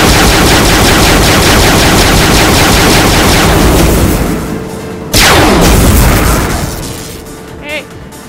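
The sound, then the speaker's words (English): Rapid, loud video game machine gun fire rattles continuously for several seconds, then trails off before a sharp burst and a descending sweep, with other game sounds layered underneath. “I was using my machine gun is because I'm almost out of jet missiles.”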